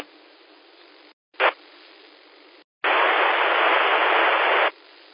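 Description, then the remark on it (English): Steady radio static hiss on a 2-meter amateur radio net, interrupted by short gaps, a quick louder burst, then a longer, much stronger rush of noise as a weak station trying to check in pushes through without any intelligible voice. “This is the second time I've heard this station try to check in.”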